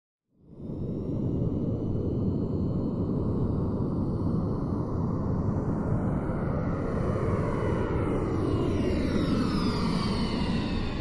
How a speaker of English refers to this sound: The skies over Los Angeles buzzed with the hum of a private jet.